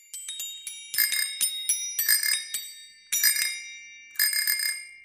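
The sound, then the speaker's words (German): A bicycle bell rings in quick repeated bursts of bright metallic dings, with short pauses between flurries, clear with no voices present. “Zwei Räder, eine Klingel und eine wartungsfreie Laufzeit von höchstens 5 Tagen am Stück.”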